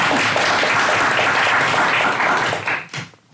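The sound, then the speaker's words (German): Sustained applause from a crowd, a dense steady wash of many hands clapping that stays loud for nearly three seconds before thinning out and fading into a few scattered claps. “Einen großen Applaus für uns.”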